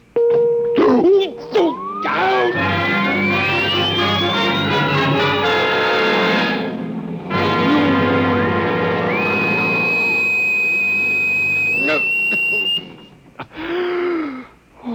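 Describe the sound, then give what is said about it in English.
A vibration device set to vibration level 2 drones with a loud, harsh electronic buzz for about twelve seconds, with a whine sweeping upward in pitch, a brief break midway, then a steady high tone before it cuts off, followed by a short groan. “So go ahead. Vibrate. Vibration level 2. It will be very painful,”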